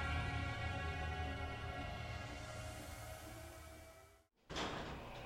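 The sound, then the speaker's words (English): A steady mechanical hum and sliding rumble of elevator doors run for several seconds, cut by a sudden brief silence as the doors meet, then a softer hiss of motion follows as the elevator begins to descend. “The doors soon closed, and we began the agonizing descent toward Division Zero.”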